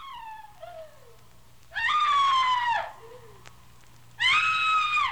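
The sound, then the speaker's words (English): A woman screams in terror twice as she struggles, each shrill, piercing cry lasting about a second, with a fainter falling whimper before the first scream and low background hum throughout. “She struggled and let out a terrifying scream.”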